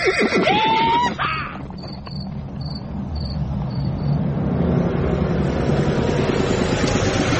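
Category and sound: vehicle, horse-drawn stagecoach arriving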